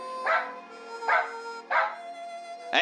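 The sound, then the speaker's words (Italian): A dog barks four times in a slow, evenly spaced series, barking out the answer to an arithmetic question. The barks are clear, with quiet gaps between them and no talking. “Usti, un talento notevole per un cane.”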